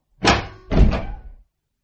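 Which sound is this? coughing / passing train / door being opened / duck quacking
door being opened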